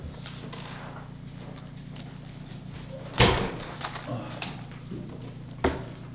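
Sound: door being opened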